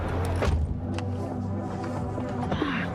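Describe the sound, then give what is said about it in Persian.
A small, dirty car idles with a steady low hum while an electric window motor whines briefly, followed by light clunks and a short mechanical rattle. “واقعا میخوای منو با این ماشین کثیف کوچیک برسونی؟”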